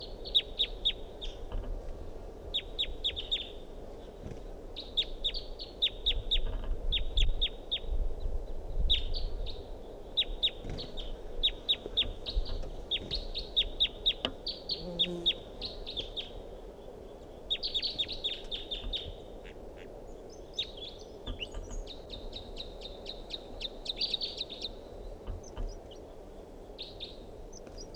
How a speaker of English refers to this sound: Wild bird in song.